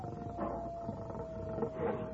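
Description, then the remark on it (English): Coyotes howl in a rough, wavering chorus, fairly steady across the short stretch with a couple of swells, over a dull background rumble. “He didn't like it none when he hears them coyotes.”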